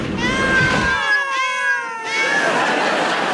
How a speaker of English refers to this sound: Ah, a room full of cats, just as I thought.